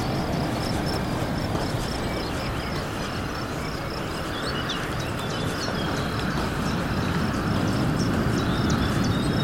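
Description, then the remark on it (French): Crickets and birds chirp by the beach, a steady high chirring band with scattered bird calls over a constant dense wash of low rumbling noise, with no one speaking. “Comme vous pouvez l'entendre, des grillons, des oiseaux au bord de la plage.”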